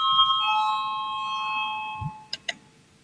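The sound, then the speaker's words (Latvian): An electronic voting bell chime in a parliament session, called before a vote on a legal bureau's proposal, rings out clearly, its bright tone sustaining and slowly fading over about two seconds, followed by two quick sharp clicks with no one talking. “Lūdzu zvanu balsosim par otro juridiskā biroja iesniegto priekšlikumu.”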